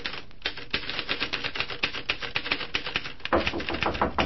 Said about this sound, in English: Well, right now it's about 1 o'clock that same afternoon, and Tom is working away at his typewriter when the knock comes on the door. Listen.